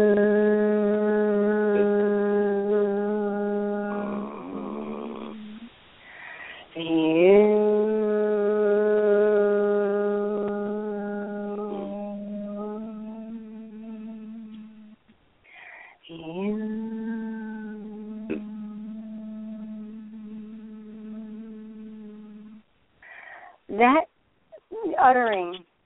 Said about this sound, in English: But to use it for contemplation is really a great thing, because we're sitting there, we've taken a few deep breaths, and we start chanting the word Hu, and it sounds just like this. Hu.